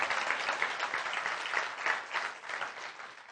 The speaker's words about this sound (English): Yeah, you can clap. Let's clap, because that's like, boom, Jesus.